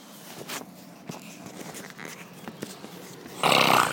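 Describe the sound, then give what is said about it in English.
An A1 Airport Flyer bus to Bristol Airport drives past over a low, uneven street rumble, ending in a sudden loud, broad rushing swell of engine and air noise during the last half-second. No one speaks. “There goes the A1 airport flyer.”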